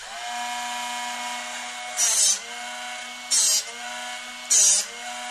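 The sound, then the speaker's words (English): The small electric motor of a Drill Doctor drill bit sharpener whines steadily at a high pitch, interrupted three times by short, harsh grinding bursts as something is pressed against it, with no voices. “That's a Drill Doctor, a product we've been selling now for close to 20 years.”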